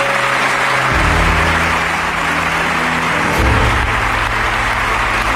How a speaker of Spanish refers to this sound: Voy a pedir un aplauso respetuoso para cuatro de esos pueblos. Grazalema, en la provincia de Cádiz.